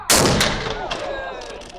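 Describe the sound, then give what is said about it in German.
A single loud blast from an old museum cannon, loaded with gunpowder but no cannonball and fired at noon by two museum staff dressed as gunners: a sharp boom, then a long rumbling roar and rolling echo that slowly fades over the next second and a half, with no voices. “2 Museumsmitarbeiter schreiten, als Kanoniere verkleidet, zu einer alten Kanone. Stopfen Schießpulver hinein, auf eine Kanonenkugel verzichten sie.”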